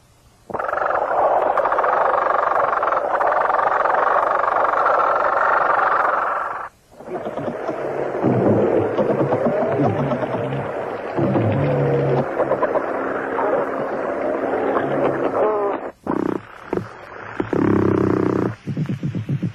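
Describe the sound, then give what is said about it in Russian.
Fish clicking and grinding recorded underwater with a hydrophone, made by vibrating swim bladders, clicking gill covers or bony armour plates, and grinding teeth or vertebrae: a dense, loud rasping chorus, a brief pause, then rougher croaking and scraping textures with short gaps near the end. No one speaks. “заставляя вибрировать резонансные устройства плавательных пузырей, щелкая жаберными крышками или костяшками брони, у кого она есть, скрежеща зубами, а то и позвонками о позвонки.”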